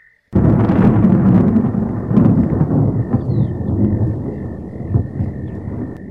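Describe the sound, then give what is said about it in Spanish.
A loud, deep rumble of thunder starts abruptly and rolls on for several seconds with crackling swells, while a steady high-pitched whistle-like tone sounds faintly throughout. “Como debía hacerse escuchar 3 veces, San Pedro volvió a tronar.”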